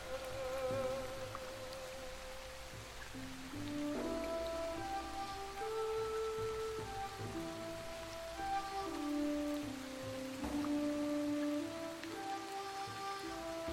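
Steady rain patters continuously at an even, moderate level, with soft sustained musical tones drifting underneath. No one speaks.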